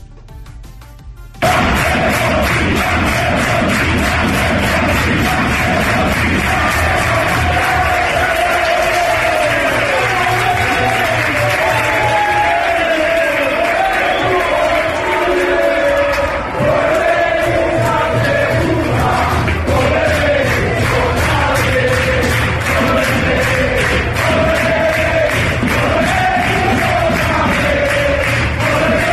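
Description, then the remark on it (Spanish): A large crowd of Albacete football fans at the Toralín stadium chants "Deportiva, Deportiva" in unison, a loud, sustained roar with rhythmic rising and falling calls that carries on steadily for the full half minute, dense. “Gritos de la afición del Albacete, Deportiva Deportiva, y que iba a volver pronto a esa división de plata el equipo blanca-azul.”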